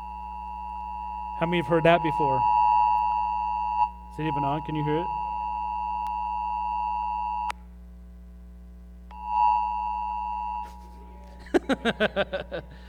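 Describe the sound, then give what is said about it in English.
A loud, steady phone emergency alert tone warning of a serious storm, with harsh buzzing harmonics, plays in long sustained bursts, cutting off and restarting, while people talk over it at moments. “So we hear that on our phones, and we know that the storm is very serious.”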